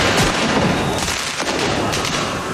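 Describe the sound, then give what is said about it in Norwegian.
Repeated sharp bangs and crackling pops burst through a dense, roaring street crowd, loud, with fireworks, firecrackers, smoke bombs and flares going off in quick irregular succession as football fans in the streets of Paris celebrate Paris Saint-Germain winning the Champions League. “Med røykbomber, fyrverkeri og nødbluss, som startet branner der både biler og sykler ble totalskadet.”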